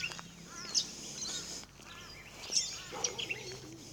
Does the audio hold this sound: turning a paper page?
no